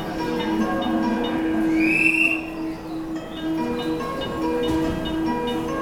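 A Special Rapid (Shinkaisoku) commuter train departs from platform 2 of a station, its steady motor hum and droning tones filling the space, with a brief rising squeal from the wheels partway through.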